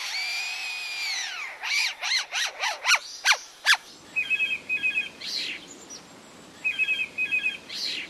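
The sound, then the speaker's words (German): A lyrebird mimics a cordless screwdriver: a string of quick, whining pitch sweeps like a motor revving up and down, followed by buzzy, rasping bursts. Fairly loud, with no voices. “Und welchen Sinn ergibt der Klingelton aus der Amselkehle nun oder der Akkuschrauber-Sound bei dem Leierschwanz?”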